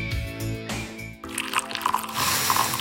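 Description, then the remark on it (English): Coffee pours steadily into a cup, a continuous splashing trickle that grows fuller and brighter over a few seconds, with a soft tonal hum underneath at the start. “That's the smell of carefully crafted coffee being poured into your cup with natural notes you can truly taste and freshness you can count on.”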